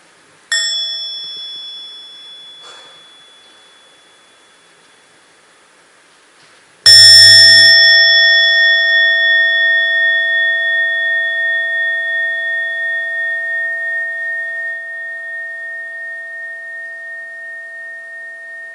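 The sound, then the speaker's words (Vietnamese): A meditation bell is first lightly touched, its soft tone fading, then struck fully about seven seconds later, ringing out loud and long with a slowly pulsing, sustained resonance and no voices. “Và khi mà nghe tiếng chuông tròn đầy thì mọi người đều thực tập với nhau.”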